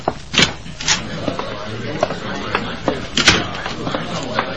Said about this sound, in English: Then we reach the top of the stairs, and I open the office door.